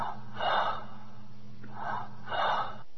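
Three raspy, airy breaths from a trailer for the film Runaway Slave, in an uneven rhythm, the last two close together, with a slightly wheezy, gasping quality over a low steady hum. No one speaks.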